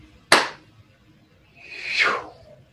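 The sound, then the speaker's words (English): After a count of three, a group claps once in unison to seal the work and close a ceremony: a single loud, sharp clap, followed after a pause by a softer, swelling whoosh that sweeps downward in pitch and fades. No one speaks. “After the count of three, we can all clap and seal the work.”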